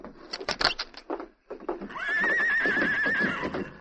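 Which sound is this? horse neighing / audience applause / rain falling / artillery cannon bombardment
horse neighing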